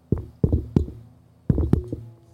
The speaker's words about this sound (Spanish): ¿Quién está tocando la puerta?